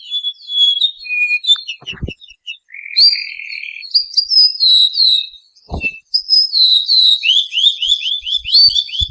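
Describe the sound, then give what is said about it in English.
A male O'u sings alone: sweet, clear whistled notes in varied phrases, beginning with a few distinctive whistles and ending in a quick series of downward notes forming a trill, with a couple of soft thumps. “The sweet, clear song of the male was a people's favorite, and it begins with a few distinctive whistled notes and ends with a series of downward notes known as a trill.”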